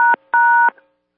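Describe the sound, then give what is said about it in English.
Two loud touch-tone keypad beeps for pound and one, a short one followed by a longer one after a brief gap, each a steady dual-pitched electronic tone, with nothing else in the background. “Pound one”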